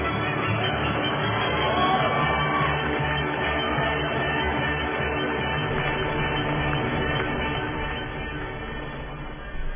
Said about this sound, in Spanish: Así que van los aplausos, el himno de la alegría para todo el equipo de FESPAD.